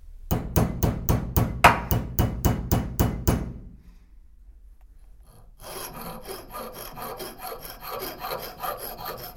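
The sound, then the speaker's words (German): A mechanic in a bike workshop works on the shock absorber of a mountain bike: a rapid, steady series of about a dozen sharp hammer blows, followed after a brief pause by continuous raspy filing strokes, with no talking. “Er hämmert und feilt am Dämpfer eines Mountainbikes.”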